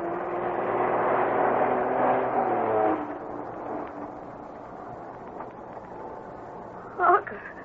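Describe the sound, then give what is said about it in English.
A heavy, slow-moving truck coming down a narrow road from an old silver mine, its engine rumbling in a low, steady drone that is loud for the first few seconds, then drops to a quieter hum, with a brief knock near the end. “Led by Bobby, Harker and Irish are headed for the old silver mine, thought to be abandoned, but now Bobby and Harker have spotted a slow-moving truck coming down the narrow road from the mine.”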